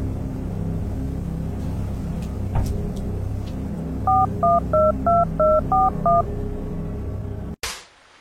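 A quick run of seven electronic keypad tones as a number is dialed, each a short, evenly spaced beep, heard over a low, steady rumble like a vehicle interior.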